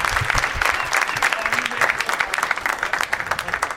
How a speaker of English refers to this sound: How about a round of applause for all these amazing name tags?